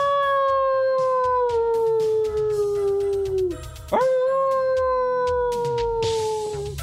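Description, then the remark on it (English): Coyotes howl close by in a pasture at dusk in long, wavering cries that slowly slide downward, break briefly, then rise again into another sustained howl, with faint yips and a layered chorus beneath. “Coyotes. And they were close.”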